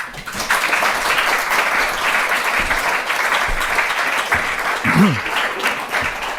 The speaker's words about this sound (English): So give us a warm applause for the first speaker of this TDF.